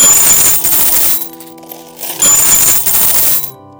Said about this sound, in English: Those who saw this wealthy lady give so many coins to the beggar marveled at how much was being offered.